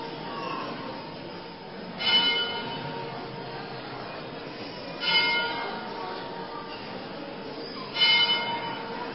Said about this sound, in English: There's a man pulling a rope. We just have to ask the man, stop pulling the rope, and the bell stops.